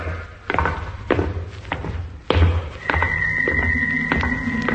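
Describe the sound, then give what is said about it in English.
A heavy door closing: a few knocking thuds, then a loud, deep slam halfway through, followed by a steady mechanical whine and rumble as it keeps moving. “It's the door. It's closing again.”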